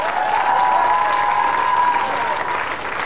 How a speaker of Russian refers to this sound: Аплодируем мужчине, который смотрит «Дом-2».